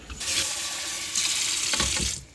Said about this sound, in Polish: No dobra, to bierzemy dwie szklanki. I zimna woda z kranu.